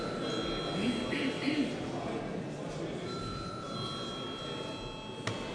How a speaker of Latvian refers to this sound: Paldies, lūdzu zvanu.